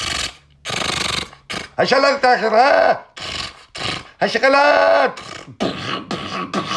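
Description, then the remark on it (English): A voice imitates a door breaking open, mixing harsh hissing bursts with creaky, wavering groans that rise and fall, in several loud segments separated by short pauses. “And I think you hear, door breaks open.”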